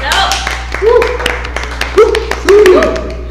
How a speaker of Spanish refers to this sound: Y pues como les prometimos en el episodio 4, el Consejo Estudiantil de Fisioterapia está aquí con nosotros. Un aplauso, ¿no? ¿Vale? Un aplauso.